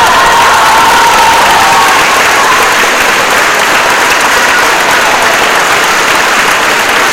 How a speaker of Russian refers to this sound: И под занавес сегодняшней программы продемонстрируем немного финальных оваций публики, завершивших первый фестивальный день.